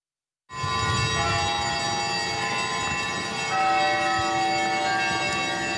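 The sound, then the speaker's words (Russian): The bells of Holy Trinity Cathedral in Lapaevsk ring out loud, their overlapping tones sustaining and blending into a continuous festive peal, with fresh strikes swelling the sound partway through, as a reliquary with relics of St. Simeon of Verkhoturye is welcomed into the church. No one speaks. “Под торжественный звон колоколов Свято-Троицкого собора ковчег с частицей мощей Верхотурского чудотворца встречают в храме.”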